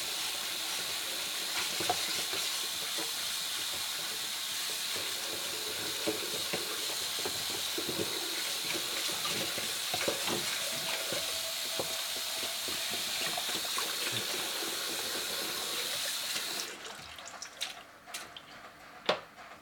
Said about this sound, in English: I like doing my dishes and talking to y'all. It's very cathartic in a way.